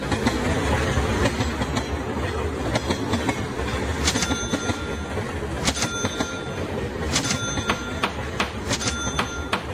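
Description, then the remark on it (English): A CSX freight train rolls steadily along the rails, a loud, continuous rumble punctuated by irregular metallic clicks and clacks from the wheels passing over track joints. “CSX trains are the most cost-efficient way to move goods to market.”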